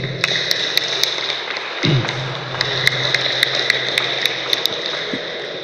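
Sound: audience applause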